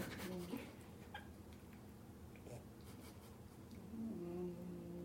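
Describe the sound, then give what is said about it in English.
A pet snores softly, with a low, buzzing rumble at the start and again near the end, like two slow breaths over a faint steady background hum. No one speaks. “She's snoring. It's so cute.”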